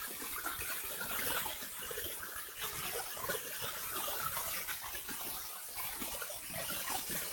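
A steady hiss of running shower water, continuous and even throughout, with a broad splashing texture and no voices.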